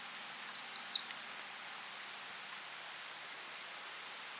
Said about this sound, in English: Over in Europe, we have the common sandpiper, Actitis hypolicus. This species breeds all across Eurasia and spends the winter in Africa, Southern Asia, and Australia. When flushed, the common sandpiper makes a sound like this.